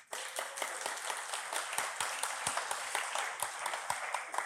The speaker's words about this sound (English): How do we respond? I think we respond with a round of applause.